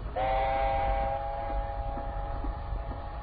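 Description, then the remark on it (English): A moving train heading north rumbles steadily while a sustained, mid-pitched whistle sounds for a couple of seconds and then fades, leaving the continuous low clatter and roar of the rolling carriages. “Julian was assigned the job of accompanying him on the train up north.”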